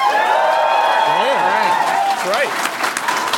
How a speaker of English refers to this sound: We're going to get to that, but let's hear from the audience. Can I get a cheer for all the Paragons in here?